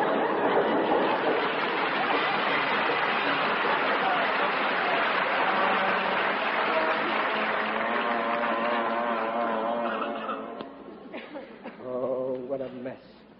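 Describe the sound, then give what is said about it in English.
A train rumbles loudly past a house, a dense sustained roar lasting several seconds before it quickly drops away, leaving voices speaking at the end. “Holy smoke! The house is moving. It's an earthquake. Oh, it's a train!”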